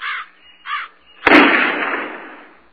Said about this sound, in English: Goddamn birds.